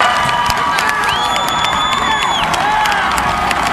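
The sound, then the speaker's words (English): A large crowd cheers and shouts loudly and steadily at the end of an Iowa state championship wrestling match, cheering both the winner and the losing finalist, with high whoops and scattered claps rising over the roar throughout. “And there's a lot of cheering for the winner, but there's also for him as well.”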